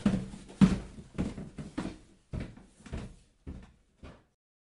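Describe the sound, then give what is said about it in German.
A door being opened, with a string of about eight woody clunks and rattles at uneven intervals that fade toward the end. No one speaks. “Die Tür steht offen.”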